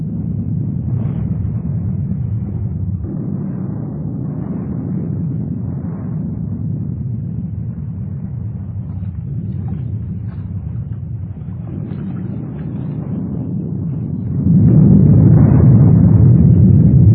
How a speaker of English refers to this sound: Stromboli, Italy. First eyewitness report. The capsule of the dead volcano broke under a tremendous explosion. Rocks of extraordinary size are being spewed out into the sea.